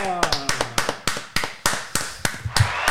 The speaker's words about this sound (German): Da kommt auch nochmal der Applaus